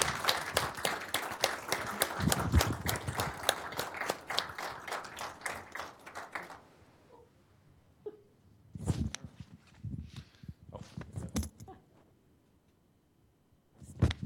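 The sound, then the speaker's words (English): A round of applause from a crowd for newly sworn-in firefighters: dense, steady clapping for about six seconds, then it fades out, leaving only a few scattered claps and thumps. “Would you please join me in a round of applause for our new firefighters and our...”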